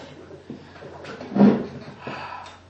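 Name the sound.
door opening and closing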